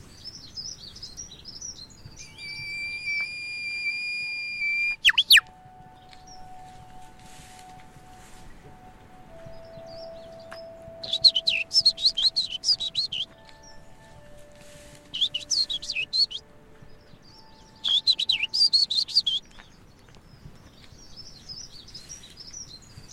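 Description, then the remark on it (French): A bird sings loudly directly overhead in bright, rapid trilled bursts, pausing between phrases, while softer chirps and calls fill the quiet background. “Il est juste au-dessus de nos têtes, là.”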